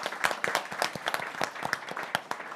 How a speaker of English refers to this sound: So Peggy Whitson, we have to give Peggy a round of applause. Please stand.